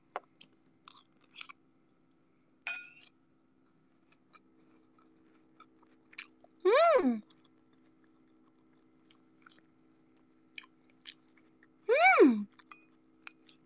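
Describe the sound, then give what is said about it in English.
Quiet chewing of crunchy onions, with scattered crisp crunches and clicks, broken twice by a short voiced sound sliding downward in pitch, like an appreciative hum. “I would like to have some more onions, please. The onions are so crunchy.”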